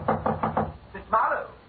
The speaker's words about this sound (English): Then after a while, I heard a knock on the door.